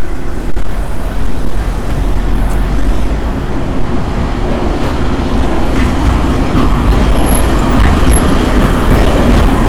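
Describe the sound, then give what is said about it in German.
A tram rumbles and rattles past on Nevsky Prospekt by the Moscow Station, a dense, steady low roar filling the whole stretch with a couple of faint high squeals near the end, no voices. “Hier hörte gerade eine Straßenbahn vorbei rattern.”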